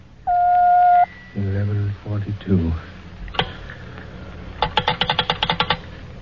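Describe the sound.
A telephone time signal marking the time as 11:42: a single steady electronic beep lasting under a second, followed by a few low voiced sounds and then a rapid string of sharp clicks, like a phone being dialed.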